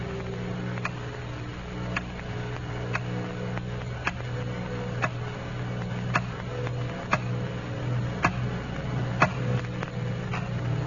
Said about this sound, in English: Picture for yourself a dark room and someone in that room. It's late at night and the clock is ticking.